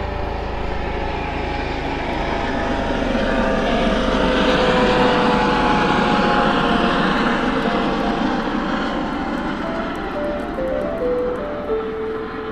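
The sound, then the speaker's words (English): A helicopter passes overhead with a loud, steady rotor and engine drone that holds for several seconds, with no voices. “That's just a helicopter looking for Uncle Dan.”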